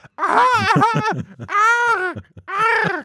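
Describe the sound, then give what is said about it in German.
A voice imitates a parrot with three loud, harsh screeches, strained and nasal with wavering pitch: a long warbling cry, then two shorter squawks after brief pauses. “Also, er frisst auf alle Fälle Kekse, der ohrenbetäubende Papagei.”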